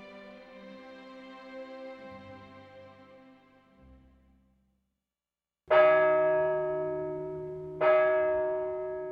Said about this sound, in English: Suddenly, some bells began to ring.